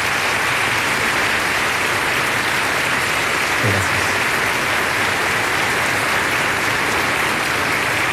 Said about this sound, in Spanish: Y por eso quiero pedirle a todos un gran aplauso para las distintas instituciones que dirigen nuestra nación.